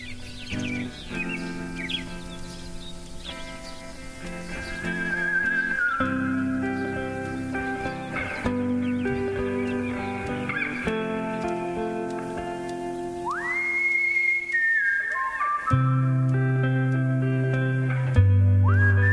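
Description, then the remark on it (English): A recorded song plays at a steady, fairly loud level, with layered sustained instruments and a high whistled melody sliding over them, no talking on top. “So we're going to listen to that now, and it was fun.”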